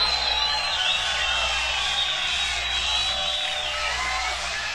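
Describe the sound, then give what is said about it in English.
A concert crowd cheers and roars steadily for several seconds, a dense wash of voices with a high whistle threading through it, holding loud and even throughout without any clear speech. “What a great crowd we've got here, really.”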